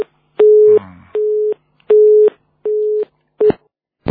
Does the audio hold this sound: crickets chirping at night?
no